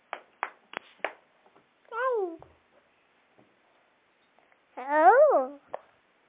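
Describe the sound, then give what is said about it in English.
Four sharp hand claps in quick, slightly uneven succession, followed by two wavering, meow-like cries separated by a short pause. “Clapping.”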